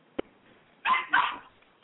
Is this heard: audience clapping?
no